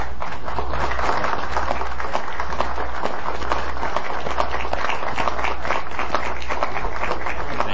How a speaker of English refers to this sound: Supervisors stood and applauded